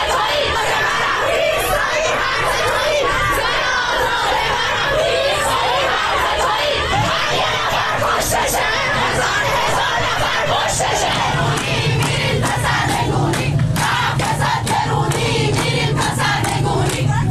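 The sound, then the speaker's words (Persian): A large crowd of protesters in Najafabad, Iran, protesting against the Islamic Republic government, shouts together in loud, rhythmic chants, voices blending into a dense roar that stays strong and steady throughout, with scattered louder cries rising above it. “در نجف آباد معترضان شعار دادند.”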